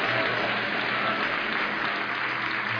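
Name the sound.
audience applauding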